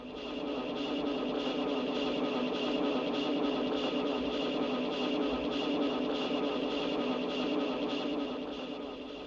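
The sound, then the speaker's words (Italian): A short recorded loop of a voice repeating words plays against a copy of itself, drifting out of phase into a dense, churning, rhythmic smear of sound that stays steady and fairly loud throughout, with no clear words. “E pian piano il mandare la musica controfase con se stessa prevede un processo nel quale il compositore non interviene più una volta che lo ha messo in moto, e questo processo finisce così.”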